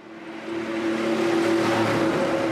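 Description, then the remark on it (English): Traffic rumbles steadily on a dark Budapest street just after 5 p.m. on a chilly weeknight, with a vehicle's humming engine drone swelling louder over a couple of seconds against a broad wash of road noise. No one speaks. “Executive Alpár Bódis stands on a dark Budapest street waiting for an electric bus.”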